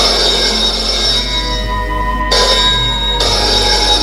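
A telephone rings insistently, its bright, buzzy ring coming in repeated bursts with brief pauses between. It sounds fairly loud, with no one speaking.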